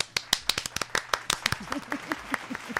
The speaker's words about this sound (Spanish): Ah, mira, ya se aplaudió.